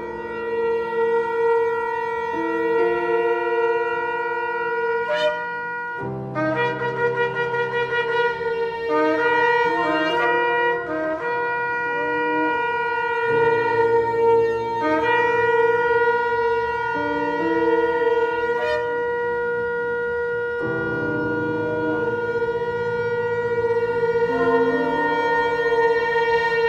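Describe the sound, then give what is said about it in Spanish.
Long, blaring horn blasts of a shofar (ram's horn), sounded after the blessing for hearing the shofar, rich and buzzy, held steadily for many seconds with a few fresh attacks and shifts in tone, loud throughout with no talking. “Bendito eres Adonai, Dios nuestro, Rey del Universo, quien nos ha santificado con sus mandamientos y nos ha ordenado escuchar el sonido del shofar.”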